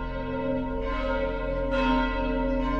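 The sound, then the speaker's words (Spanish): Church bells ring out steadily, their deep overlapping tones sustained and resonant, with fresh strikes swelling the sound partway through. No voices are heard. “Y cuando el miedo empezaba a apoderarse de ellos, sin imaginar que ese día sucedería, las campanas comenzaron a sonar.”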